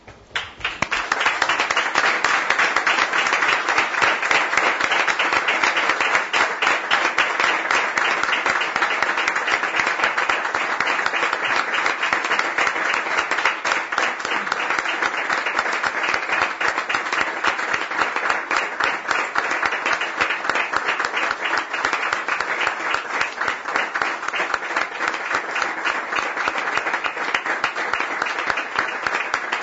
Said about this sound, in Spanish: Nos ponemos de pie y le rendimos un sentido homenaje con un aplauso.